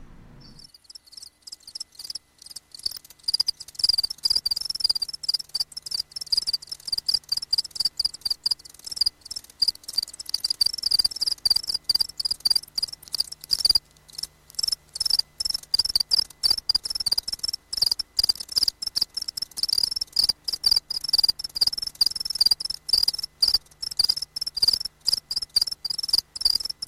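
A house cricket chirps steadily, a bright, high-pitched trill repeating in rapid pulses without pause for nearly half a minute, with no voices.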